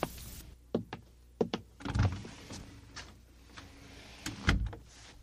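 The first door on the left is worked open: a few sharp latch clicks and knocks, then heavier thuds and a soft rattling creak, with no voices.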